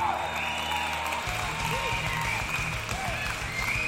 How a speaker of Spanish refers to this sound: Todo el éxito del mundo para ustedes, muchachos. Aplauso.